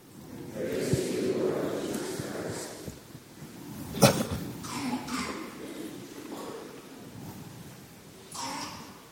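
A single sharp cough bursts out midway through, loud, against a steady low background rumble with faint muffled shuffling around it.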